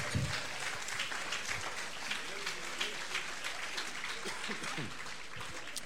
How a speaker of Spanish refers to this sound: Fuerte aplauso a Cristo entonces.